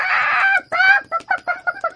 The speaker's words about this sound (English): Suddenly, the cock jumped up and flapped his wings. He screeched and cackled.